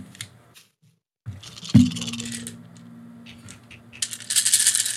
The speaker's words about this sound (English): I guess, roll it. Oh, boy. So many dice.